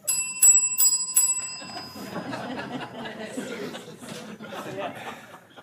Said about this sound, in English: She will signal 15 seconds to go with a single ring of the bell. She will signal the time's up for the speaker's response with four rings on the bell.